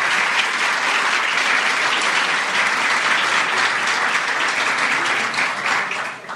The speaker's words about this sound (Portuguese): Então, uma salva de palmas ao Conceia por esse momento.